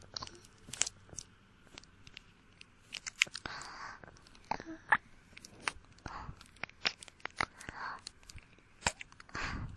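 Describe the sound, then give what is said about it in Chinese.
Biting and chewing mouth sounds in an ASMR ear-cleaning roleplay: a steady stream of quiet, crunchy clicks and wet smacks at an irregular rhythm, with a soft whispery breathiness running underneath. “看你耳朵红的就跟西红柿一样，好想咬一口。”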